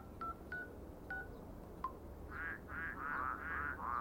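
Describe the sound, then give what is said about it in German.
A few short electronic beeps, then a frog croaking in a quick rhythmic series of about six warbling calls, moderately loud over low background hum. “Also entweder haben Sie da gebrauchte Frösche unterm Ladentisch oder Sie sind der Klamottendieb.”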